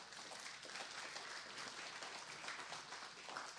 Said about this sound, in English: You should give the Lord a hand clap for that.